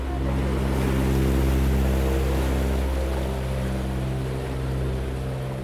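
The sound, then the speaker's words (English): A tour boat carrying passengers drones low and steady, swelling slightly and then easing as it glides along the canal and passes under a bridge, with a faint wash of water and no voices. “I pause to take in the view standing on a special bridge as boat passengers passed underneath, waving at me and smiling to their selfie sticks.”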